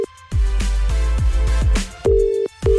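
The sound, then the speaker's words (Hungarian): Steady electronic telephone ringing tones of an outgoing call placed live on air, coming in short repeated bursts over a thumping, bass-heavy musical beat, fairly loud, with no one speaking. “Add meg a címzett telefonszámát, én pedig akcióba lendülök, felhívom őt, és élő egyenes adásban meglepjük.”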